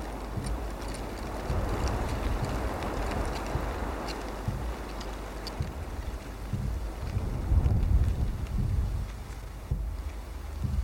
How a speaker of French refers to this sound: Le jardin et le vent sur les arbres, les branches, les feuilles tombent. C'est comme si le jardin tanguait.